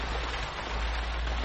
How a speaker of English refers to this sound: The rain is as contrary as I ever was. It came because it knew I did not want it. It sounds just like a person lost on the moor and wandering on and crying. It isn't the wind now. It's different.